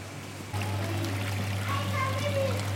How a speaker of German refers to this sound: Man hört Blubbern aus den Becken.